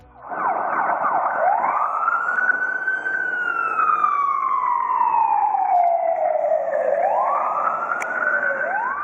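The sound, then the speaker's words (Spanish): A fire engine siren wails loudly, rising and falling in long, slow sweeps over several seconds, with no one speaking. “Sonaba una sirena ahora mismo porque han estado los bomberos anoche, que tenían que intervenir en la localidad de Sellaño.”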